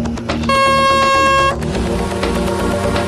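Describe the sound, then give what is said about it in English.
A single loud, steady klaxon blast of about one second, signalling teams at a starting line to fire their guns at a target, a harsh buzzing tone rich in stacked harmonics, rising over a dense rumbling background of engine and mechanical noise that continues afterward. “Okay, boat boys, charge your magazines and fire on the sound of the klaxon.”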